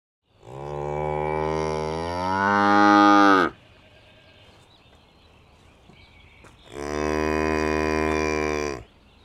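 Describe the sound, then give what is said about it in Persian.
Two long, deep, loud moos from a buffalo in the desert, the first rising and swelling for about three seconds, then a quiet pause before a second steady bellow. “توی صحرا گاومیش هم هست.”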